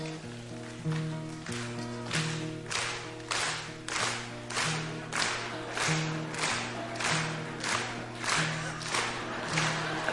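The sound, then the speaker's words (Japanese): An audience claps along lightly in a steady, even rhythm, roughly two claps per second, to a folk song with a droning musical accompaniment of held low notes. “すいませんお母さん、手拍子結構ですけどこう揉まないようにお願いします。”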